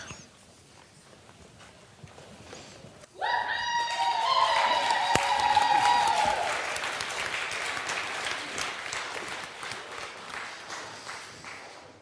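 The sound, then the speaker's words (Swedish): After a few quiet seconds, an audience at a church service breaks into loud applause with cheering and a shrill whistle, the clapping staying dense and steady to the end. “Ja, det är värt jubel.”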